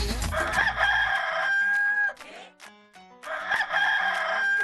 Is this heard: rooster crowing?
yes